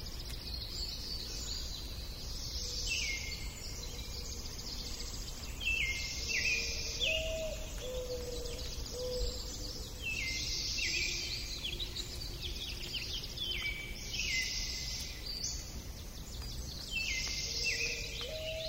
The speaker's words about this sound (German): So gibt es zum Beispiel Aufnahmen aus Wäldern in Kalifornien wie diese aus dem Red Grove in Santa Cruz, bevor das Gebiet durch die verheerenden Waldbrände dieses Sommers verbrannt ist.